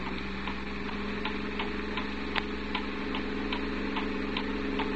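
A steady clock ticking, with faint regular ticks about every third of a second over a constant low engine hum, with no voices; the clock hangs right overhead.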